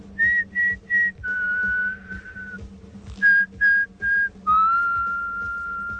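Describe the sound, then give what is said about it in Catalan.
A whistled military march tune, the 1914 Colonel Bogey march, from a scene in the 1985 film The Breakfast Club: three short bright notes followed by a long held note, the pattern repeated twice, clear and loud over a faint steady low hum. “És una escena on els joves comencen cantant aquesta marxa militar del Colonel Boggy, una cançó del 1914, però al final arriba el professor, tanca la porta i passa això, aquest final.”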